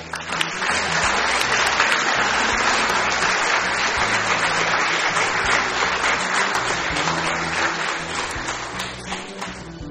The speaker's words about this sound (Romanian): Și să o mai aplaudați o dată pe Aida.